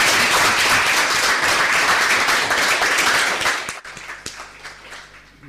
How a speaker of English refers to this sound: A big hand, much applause